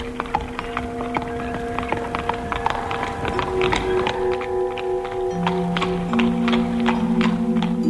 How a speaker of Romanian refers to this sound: Birjarul, cai. Birjar.